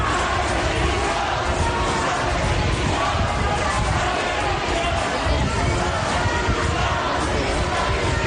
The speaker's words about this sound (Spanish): Efectivamente, unos gritos que ya son parte del documento sonoro, sí, que nos acompaña desde que ocurrió esta enorme desgracia.